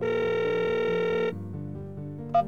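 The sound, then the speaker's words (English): A telephone rings with a steady electronic tone that holds for over a second, then shifts to lower, softer tones, ending with a brief bright blip. No one speaks. “pick the phone up.”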